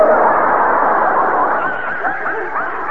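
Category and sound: animal, dog barking and yipping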